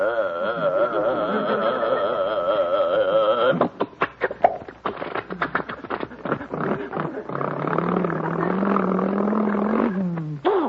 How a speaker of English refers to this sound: And boarding our sturdy little bus, we wait as our burly driver starts up the powerful engine.